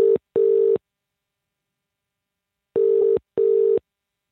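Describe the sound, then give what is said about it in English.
A telephone call ringing out: a steady, mid-pitched ringback tone in short double bursts, one pair cut off at the start and another after a pause, with no voices. “I placed this phone call”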